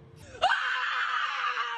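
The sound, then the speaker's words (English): A woman lets out one loud, sustained scream that holds steady for over a second before trailing off, preceded by a brief low rustle. “And the scream at the end is like that.”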